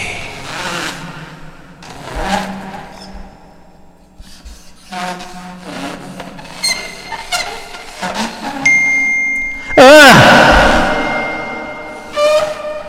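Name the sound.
mobile phone ringing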